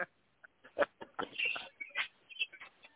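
Birds chirp and cluck in quick, irregular bursts, a busy stretch of short calls heard without any talking, moderately loud.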